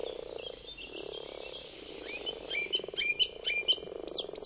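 A dense chorus of frogs croaking steadily, with overlapping pulsed calls and sharper chirping notes growing louder in the second half, with no voices.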